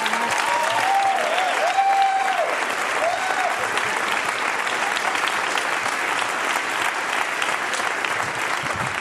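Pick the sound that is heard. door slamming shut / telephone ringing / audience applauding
audience applauding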